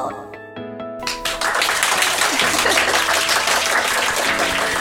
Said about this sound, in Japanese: すごい拍手たくさんありがとうございます。